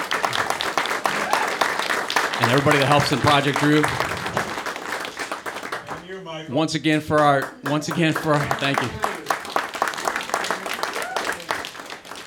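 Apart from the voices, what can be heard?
audience applause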